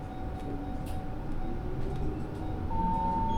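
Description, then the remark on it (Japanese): A bus engine rumbles steadily from inside the vehicle, its low drone swelling slightly as a whining tone climbs in pitch while the bus pulls away from the Edogawa Bunka Center stop in Edogawa, Japan, and gathers speed toward Edogawa Ward Office. “発車します。”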